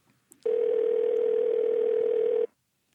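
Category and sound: signal or alarm, phone call ringing tone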